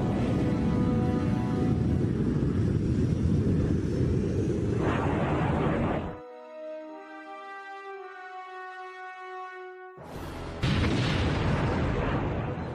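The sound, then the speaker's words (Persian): Loud, rumbling roars of American aircraft bombing in Afghanistan fill the opening seconds over a droning aircraft engine. A high, steady engine whine then carries alone before another heavy blast-like roar returns. No one speaks. “بمباران بی هدف هواپیماهای آمریکایی در افغانستان ادامه می‌یابد.”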